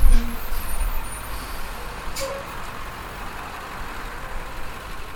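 A large bus engine rumbles steadily and fairly loud, with a short hiss of air brakes partway through, as a team and six laborers pile into the bus at the Juarez city limits at nightfall. No one speaks.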